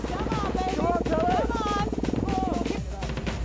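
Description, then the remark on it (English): A putt-putt engine chugs steadily with rapid, even low pulses, while wavering voices rise and fall over the top before the sound thins out near the end. “Ah, there is the sound, the reassuring sound of that fantastically powerful putt-putt-putt engine.”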